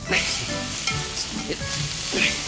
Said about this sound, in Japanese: よし、鹿肉と木の実のオイスターソース炒め、出来上がり。 いい香りだ。